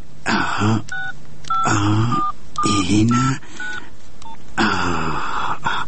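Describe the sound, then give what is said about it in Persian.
A telephone number being dialed to call a nephew: a series of short, clear two-tone keypad beeps in an uneven rhythm, alternating with louder bursts of a voice murmuring between the presses. “خو خو باش که نال به اون بیادرزادیم یک زنگ بزنم.”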